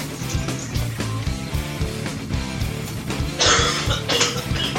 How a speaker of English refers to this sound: is coughing up a lung on this episode